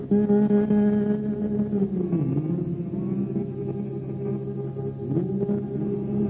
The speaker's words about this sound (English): While we have our heads bowed, let's hum this.